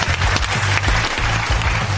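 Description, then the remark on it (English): Sustained audience applause welcoming a journalist, blogger and movie critic, a dense, steady wash of many hands clapping at a strong, even loudness throughout, with a faint low murmur of voices underneath. “I am waiting until the applause dies down so people can actually hear me.”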